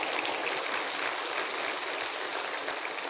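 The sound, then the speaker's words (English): A crowd applauds steadily, a dense, even wash of many hands clapping at once that holds at the same level throughout with no voices breaking through. “I don't even get applause when I preach a good sermon.”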